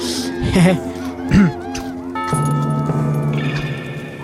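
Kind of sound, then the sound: animal, horses neighing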